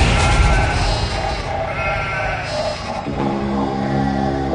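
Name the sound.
sheep bleating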